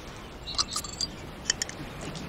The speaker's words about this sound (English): He sits on the blanket, uncapping the bottle.